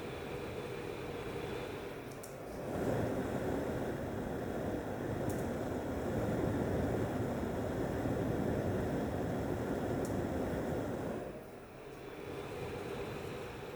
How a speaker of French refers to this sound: Il y en a une autre beaucoup plus forte dans la cuisine. Une autre ventilation.